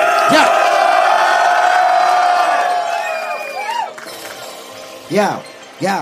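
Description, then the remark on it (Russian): A large crowd cheers and shouts in a loud, sustained roar that gradually thins out, punctuated by rising-and-falling whoops at the start and two more near the end, answering a call to make noise as the first beat starts. “Эй, мочи первый бит, поехали, дайте шуму!”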